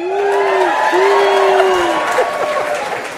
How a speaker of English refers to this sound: I pause for applause. You can't actually do that.